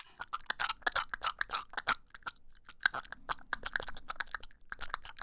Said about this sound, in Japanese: ほーら、咀嚼して絞り出してあげるわ。